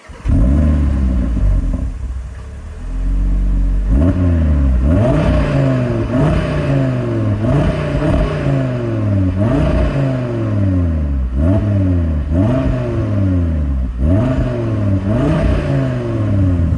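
A car with an uncommon, very special engine concept, not a V8, revs repeatedly, each burst of throttle rising in pitch and then dropping back, in a steady rhythmic cycle of about every one to two seconds, loud with no talking.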